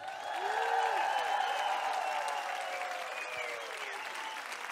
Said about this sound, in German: Meine Lieben, bevor wir weitermachen, möchte ich auch einen riesigen, monströsen Applaus für die unglaublich tolle Band.